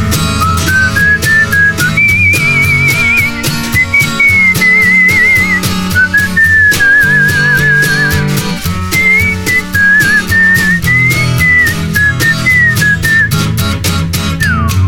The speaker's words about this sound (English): Whistle solo.